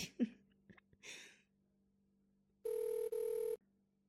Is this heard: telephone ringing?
yes